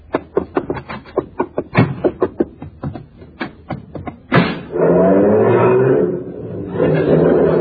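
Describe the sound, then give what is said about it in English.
A quick run of sharp, clacking knocks gives way to a car engine roaring up loudly and running steadily as a car is driven over from next door. No one speaks. “Hey, how come you drove your car over here? You only live next door.”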